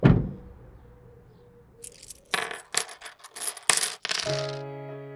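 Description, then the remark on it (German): Coins are emptied from a gumball machine's cash box by a money transport, spilling out in several loud clattering bursts, then one coin rings and settles with a fading metallic tone. Nobody speaks. “Einige Wochen später kam ein Geldtransporter daher und leerte den Kaugummiautomaten.”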